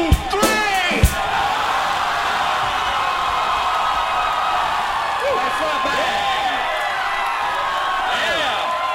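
A large crowd screams at full volume after a count of three, trying to be as loud as possible in a loudest-scream contest: a dense, sustained roar of overlapping high-pitched yells and shrieks that holds steady for several seconds after a couple of sharp bangs at the start.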